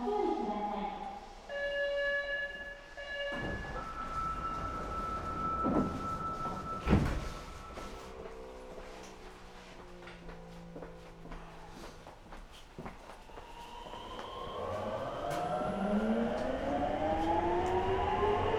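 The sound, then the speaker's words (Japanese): On a subway train bound for Makomanai, departing at 7:05, tonal chimes sound before the doors close with a solid thud. The motors then hum and whine, climbing steadily in pitch as the train pulls away. “7時5分発真駒内行き発車いたします。”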